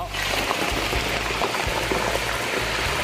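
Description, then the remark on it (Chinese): Pork trotter skin fries in oil at about 140 to 160 degrees with the heat turned off, sizzling and bubbling steadily as its moisture evaporates. A dense, continuous crackle with busy popping throughout and a faint voice now and then underneath. “好，我们稍微等它这个水泡，就是它的水分先稍微蒸发完以后，我们再开火，好，这个时候会比较安全，它就比较不会着火。”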